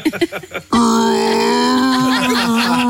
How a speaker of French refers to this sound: Ce n'est pas un dinosaure. Jean-Yves Le Drian a bâillé en regardant un discours de sa remplaçante Catherine Vautrin.